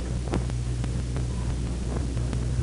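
Dense, steady applause fills the House of Representatives chamber, greeting President Truman as he comes down the center aisle, a continuous crackling wash of many hands clapping at once over a low electrical hum, with no voices heard.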